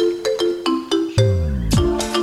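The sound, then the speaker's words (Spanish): A melodic phone ringtone plays alone, a quick series of bright electronic notes followed by a fuller sustained chiming phrase with sliding tones, fairly loud. “Va a llamar por teléfono y le va a atender.”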